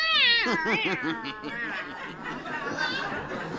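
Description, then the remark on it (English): A cat named Ruby meows: a quick run of short, chirpy meows, then a longer warbling meow toward the end, fairly loud with a faint background hum. “You can talk to cats? Of course, all chromatons can.”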